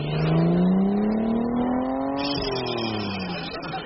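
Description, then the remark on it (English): A car engine revs steadily higher as the vehicle drives off, then the pitch dips as it shifts or eases off, loud throughout with no talking. “Look, the snake car.”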